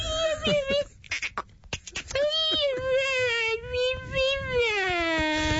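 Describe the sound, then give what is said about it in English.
A human voice imitates a beluga whale with high, squeaky, whistling glides: a short wavering cry, a few breathy bursts, then a long warbling call that slowly slides downward in pitch. “What would that beluga whale sound like?”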